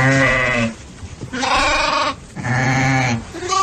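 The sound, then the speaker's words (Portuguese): A person imitates a sheep in a contest for the best sheep imitation, letting out three loud, wavering bleats, each under a second or so, separated by short pauses, with no other talking. “Já elegemos o melhor peru da manhã, sim. Agora queremos eleger a melhor ovelha.”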